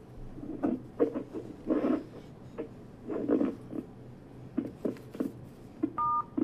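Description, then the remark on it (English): A single short telephone keypad tone beeps near the end, clear and steady, after a stretch of scattered soft tapping and rustling bursts. No one speaks. “Okay, we're having trouble with the phone again. It cut out, but I'm going to try and pick up where we left off”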